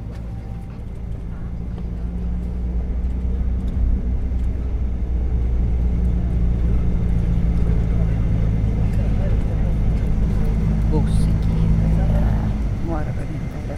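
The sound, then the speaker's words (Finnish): A bus on the seaside promenade in Funchal pulls away toward the southwest coast, its engine rumbling low and steady, the drone loud for the whole stretch, with faint indistinct voices and street noise in the background. “Funchalin rantakadulta löydän oikean bussin, jolla lähden kohti lounaisrannikkoa.”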